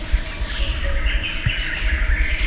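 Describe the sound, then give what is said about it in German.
Ambience of the Kakamega rainforest in western Kenya, near the border with Uganda, with bird calls and chirps scattered through a steady, dense wash of background sound, the birds blended together, with a low rumble underneath. “Ein grünes Paradies, in dem fast 400 Vogelarten zu Hause sind.”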